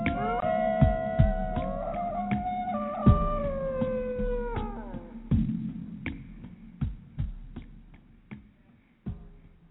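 Several wolves howl together in long, overlapping wavering tones that rise and slide, fading out midway, while sharp knocking taps repeat throughout and carry on alone afterward.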